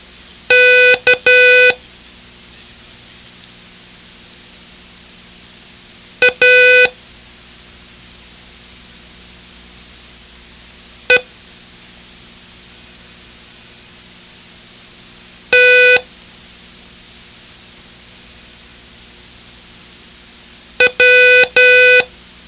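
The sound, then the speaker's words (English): Five short groups of Morse code beeps sending the letters K, A, E, T and W, each a letter of dots and dashes, separated by several seconds of quiet, as a review drill in a Morse code lesson. The tone is a steady, fairly high-pitched buzzy beep, with no talking. “Let's see how well you remember the letters you learned in lesson 2. Take your pencil and copy them.”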